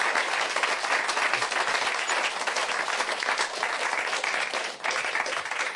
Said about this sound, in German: Also Applaus auch für unsere beiden.